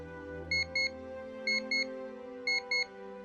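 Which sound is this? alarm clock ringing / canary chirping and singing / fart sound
alarm clock ringing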